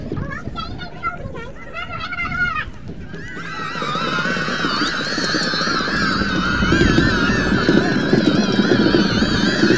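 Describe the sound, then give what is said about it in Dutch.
A helicopter with its throttle cut back passes overhead, its steady rotor chop swelling loud and sustained. Brief honking calls and faint background voices come just before it drowns everything out. “En de helikopter. Die gaat er even door, die heeft zijn gas afgezet.”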